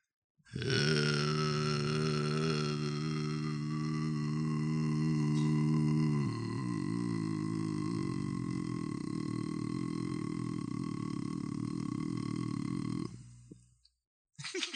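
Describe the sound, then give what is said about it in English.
A man trying to sing his lowest possible note holds one very low, gravelly sung note for about twelve seconds. Around midway the tone drops slightly and turns rougher and wobblier before it trails off. “Okay, so now we're doing lowest note.”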